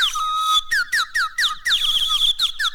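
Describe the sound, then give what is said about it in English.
A person whistles an imitation of a bird call: a bright warble followed by a rhythmic run of quick, repeated chirps and a sustained trill, with no talking. “you may have to simulate it by the way I did, by imitating”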